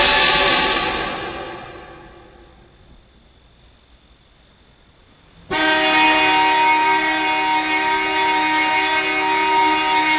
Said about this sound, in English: Our sound cut with a horn brings us back to the kids and Forbidden Planet.